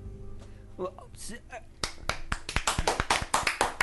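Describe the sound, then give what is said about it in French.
A short burst of hand clapping starts partway through, with sharp, irregular claps that build into a quick, uneven patter. Brief speech comes just before the clapping begins. “Point d'applaudissement quand même de la chatroom.”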